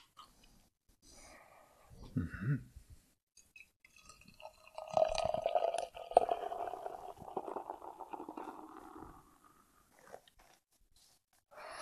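A brief low thump as a bottle of bitter is opened, then several seconds of liquid pouring steadily into a glass, a gurgling, splashing stream that fades out near the end.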